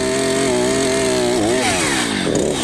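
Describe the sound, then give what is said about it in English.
A chainsaw roars loudly as a farmer cuts wood for a frame, its steady engine whine dipping and wavering in pitch as the blade bogs down cutting into the wood, continuous throughout with no voices. “Barmy farmer Andy is on frame-cutting duty, and somewhat scarily, he's got hold of a chainsaw.”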